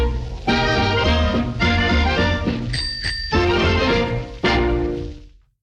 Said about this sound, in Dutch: Als ik tweemaal met mijn fiets bel, bel, dan betekent dat komt snel.